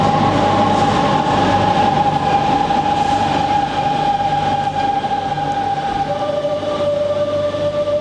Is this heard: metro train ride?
yes